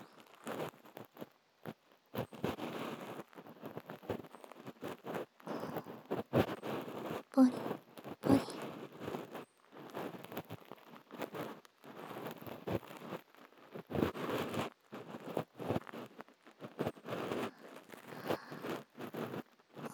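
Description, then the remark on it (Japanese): An ear pick scrapes earwax inside an ear in dense, repeated bursts of crackly, gritty rubbing, with irregular rhythm and short pauses, moderately loud throughout. “耳かき棒を伝わって私の手でも音がわかるのですから、あなたにもわかりますでしょう。”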